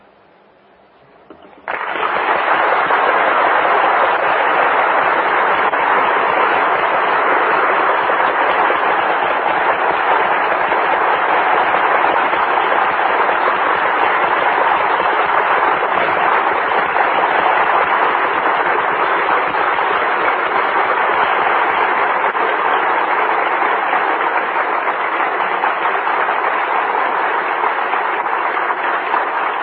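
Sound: audience applause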